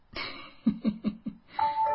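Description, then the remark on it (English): A short run of PalTalk chat app notification chimes: several quick bell-like tones in a row, then a brighter sustained ding at the end, clear with no voices. “And I'm hearing little Pal Talk bells.”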